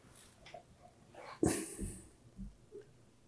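A dog huffs and snorts, one sharp breathy puff followed by a few softer, wheezy exhalations, as it is being talked into coming back into the house.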